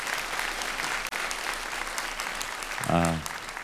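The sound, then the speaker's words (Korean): A large church audience claps steadily and energetically for several seconds in a round of encouraging applause during a special summer service; a voice briefly cries out over it near the end. “우리 첫 테이프를 끊어주신 우리 N강남, N서치와 우리 공동체 한번 힘찬 격려의 박수 부탁합니다.”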